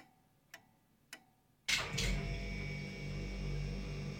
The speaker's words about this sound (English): The fridge guy. The refrigerator. The hum in the fridge. Oh, there goes my fridge. You hear that sound? It's the fridge sound.